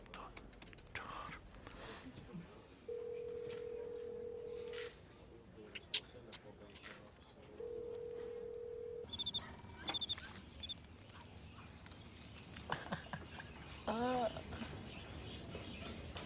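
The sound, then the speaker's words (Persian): A telephone in a pet store rings twice in long, steady electronic tones spaced a few seconds apart, a call for a customer to be answered at the checkout counter, while quiet voices murmur and whisper amid light background bustle. “تلفن با اتون کار داره.”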